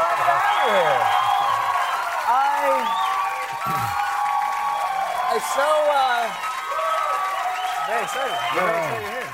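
A studio audience applauds and cheers loudly and continuously as actor Robert De Niro is welcomed back onto a talk show, with dense clapping under a mix of rising and falling whoops and shouts that stays steady for the whole stretch.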